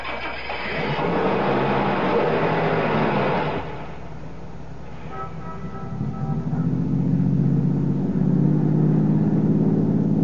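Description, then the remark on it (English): A car engine turns over and catches, then revs and rumbles steadily louder as the vehicle pulls away, heading west to the highway, after a few seconds of broad background noise. No one speaks. “Start your car, head west to the highway, and keep going till I tell you to stop.”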